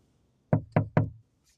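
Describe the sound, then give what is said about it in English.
Three fast, loud knocks on a bedroom window in quick succession, each a sharp thud with a short ring, evenly spaced, followed by silence with no voices. “That was a window, by the way, not a door. But it was like that. It wasn't slow. It was fast and it was loud.”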